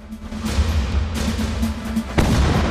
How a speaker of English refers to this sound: And still, the Ottoman gunners didn't open fire. They were just waiting, luring the fleet in. And as they started to come in, they started pounding the fleet. Cannons pointed at the sea, then old footage of ships being blasted.